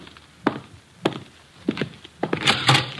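A few dull, evenly spaced thumps like footsteps lead into a louder clatter and rustle as a man opens the door for a visitor, who has come to see the detective. No one speaks.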